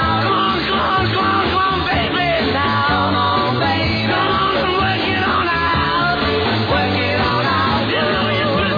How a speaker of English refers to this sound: Counting the top five rock and roll screams.